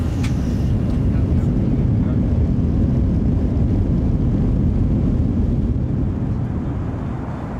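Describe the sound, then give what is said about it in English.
A loud, steady low roar of airplane engines fills the whole recording, a constant drone without pauses, heard from inside a chartered jet on the runway in Las Vegas, headed to Los Angeles. “So we're on the plane headed to LA.”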